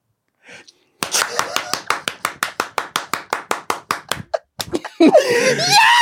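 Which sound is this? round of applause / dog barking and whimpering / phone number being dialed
round of applause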